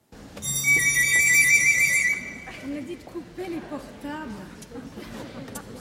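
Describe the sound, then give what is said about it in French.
A telephone rings in one loud, bright, sustained burst lasting under two seconds as Apollo phones Daphne in a twentieth-century musical telling of their story, then a voice begins speaking as the ringing stops. “Et comme nous sommes au XXe siècle, bon, il insiste, c'est-à-dire il appelle et il appelle Daphné au téléphone.”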